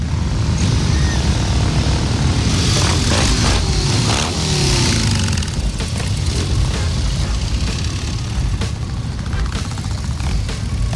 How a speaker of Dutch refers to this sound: En met hem 377 andere motorrijders. Het duimpje gaat omhoog. En ze gaan vertrekken voor een fantastische rit door Amsterdam. De Distinguished Gentleman's Ride 2022 Amsterdam gaat van start.